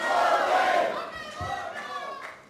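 A large audience at a stage show shouts the show's final line, "Vaya con Dios," together in unison: a loud, sustained group yell that swells at the start and then tapers off, with many voices blending into one roar.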